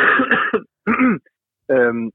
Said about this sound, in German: Ja, warte mal ganz kurz eine Sekunde, ich muss mal ganz kurz husten, ich habe irgendwie so einen Frosch im Hals.